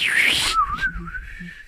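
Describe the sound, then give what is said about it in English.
After a short breathy rush of air, someone whistles a wizard bird impersonation: one sustained, wavering mid-pitched tone that dips and rises, held for about a second with faint low sounds beneath. “But I hear if we could both do a wizard bird impersonation.”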